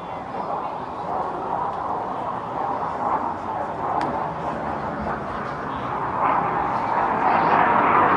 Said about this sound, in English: You're a jet screaming over us. There's a military base just about a mile beyond left center.